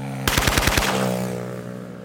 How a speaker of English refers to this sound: 2 weeks later, the same prison director is dead, gunned down by hitmen in a motorcycle drive-by shooting.